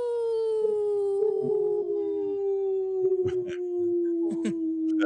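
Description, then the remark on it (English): A person imitates a wolf, giving a long, steady howl, one sustained note slowly sinking in pitch for about five seconds, fairly loud, with a few soft bumps and clicks in the background, on the Native Roots Radio show. “That was the best howl.”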